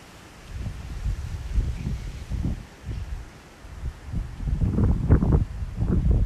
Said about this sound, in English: Perhaps you can hear the wind rustling in the palm trees.